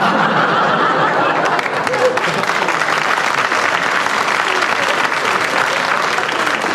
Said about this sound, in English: I will be generous and follow the guidance of the audience's applause, which says that there's your training. They will wish you to continue on the bits that get taken out.